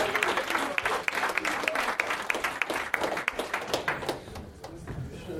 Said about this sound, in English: Clap your hands for Noriko Ott, ladies and gentlemen.